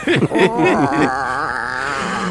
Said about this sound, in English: That cat yelp. Echoing.